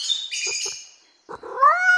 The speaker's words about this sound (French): Des chats.